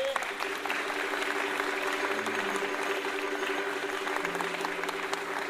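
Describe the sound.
Steady audience applause fills the whole stretch, a dense wash of clapping at even loudness, with a faint low hum running underneath and a few murmured voices mixed in.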